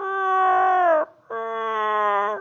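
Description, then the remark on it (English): A person imitates a cat about to vomit, making two drawn-out, whining yowls with a brief pause between them. The first sags slightly in pitch, and the second holds steady and lower. “You ever watch a cat vomit? Oh, it's fun. Because it starts like a...”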